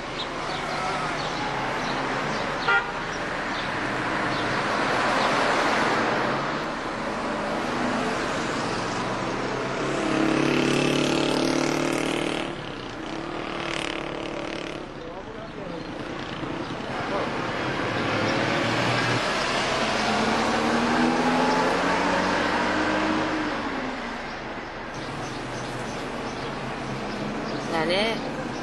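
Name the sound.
car driving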